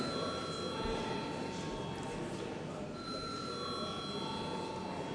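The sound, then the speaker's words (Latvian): A parliament voting bell rings steadily and loudly for several seconds, called for a vote on a bill in its third and final reading; a continuous metallic electric ring over a faint murmur of room noise. “Lūdzu zvanu.”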